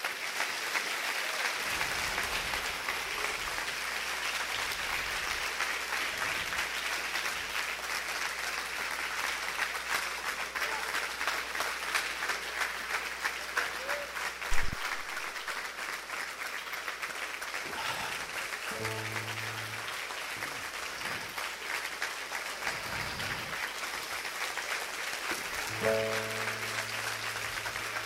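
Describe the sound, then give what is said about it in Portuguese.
An audience applauds the Lord steadily for the whole stretch, a dense, even wash of clapping with a few tonal musical notes rising faintly beneath it near the end. “Se você aplaude o Senhor, aplauda o Senhor e celebre o seu nome em voz de júbilo.”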